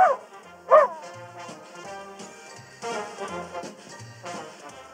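A small dog lets out two sharp, high yips near the start, followed by softer whining and yappy barks, with no one talking.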